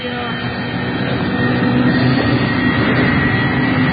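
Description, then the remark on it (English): A single propeller engine of a plane, the only engine running, drones steadily and loudly, a constant rumbling roar with a faint humming tone running through it for the whole stretch. “Propellers don't make that much noise. It's only running one engine.”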